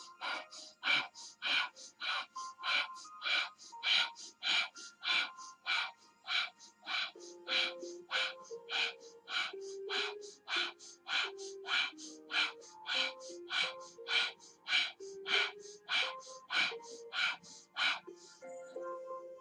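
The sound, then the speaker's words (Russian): Forceful, sharp breaths of a breathing exercise, done with fists raised at the start of a meditation, repeat in a steady, quick rhythm of roughly one to two per second, loud, with a faint low tone humming underneath in the second half. “Кулачки вверх и дышим.”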